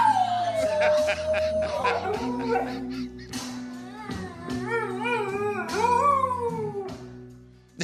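A dog howls in long, wavering, rising and falling cries that continue for several seconds, loud, while a country song plays steadily underneath from an Alexa smart speaker.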